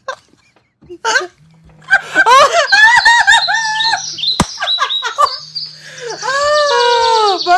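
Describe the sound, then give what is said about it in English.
A bird chirps clearly, a lively run of rising and falling tweets and whistles that continues for several seconds with only brief pauses. “The bird is here, which means it's time to say goodbye.”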